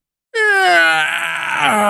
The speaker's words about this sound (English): That was a giant yawn.